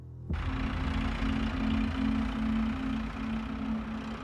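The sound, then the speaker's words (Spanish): A tractor engine idles steadily after the tractor pulls up and stops a car, cutting in abruptly and holding a low, rumbling drone with a constant hum and no one talking. “hijo de uno de los propietarios del lugar, se acercó en un tractor y detuvo el coche.”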